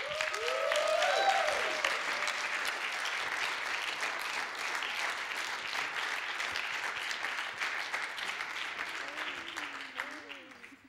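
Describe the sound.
Steady morning audience applause welcoming a couple invited up to be interviewed, many hands clapping in a dense crackling wash that holds for about ten seconds, with a few faint voices and whoops rising over it before it tapers off.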